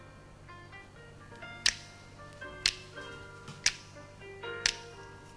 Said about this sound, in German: Da schnippen sie ein bisschen.